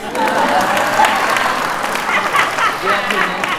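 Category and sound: crowd, audience clapping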